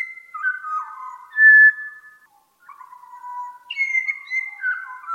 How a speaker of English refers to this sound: That's a pied butcher bird. Hollis gathers the birdsong and tries to recreate it in her music.